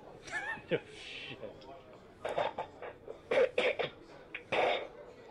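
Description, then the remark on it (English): Rough coughing and throat clearing in a series of short, harsh bursts, clustered in an uneven rhythm with brief pauses between fits. “Do you need a fucking cough drop, you silly bastard?”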